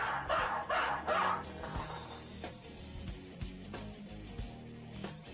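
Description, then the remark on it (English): A dog barks in three quick, loud bursts at the start, followed by a few sharper, quieter yips and thumps. No one speaks. “This is a dog.”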